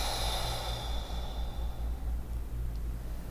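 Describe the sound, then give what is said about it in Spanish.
A slow, deep breath in and out during a breathing exercise, a soft breathy rush of air with no talking, set against a steady low background hum. “Inhalamos y soltamos. Inhalamos y soltamos.”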